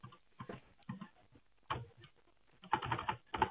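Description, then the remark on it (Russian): Irregular bursts of quick clicking keystrokes on a computer keyboard, fairly quiet, with short pauses between runs and a denser flurry of typing toward the end, as data from an application is copied and form fields are filled in. “Я его сейчас скопирую, данные. Я сейчас буду заполнять поля, периодически буду задавать вам вопросы.”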